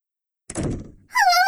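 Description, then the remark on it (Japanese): A door thuds shut with a dull, heavy knock, then a brief, high, wavering groan or squeak follows right after. No one speaks. “ドアを閉めないでください。”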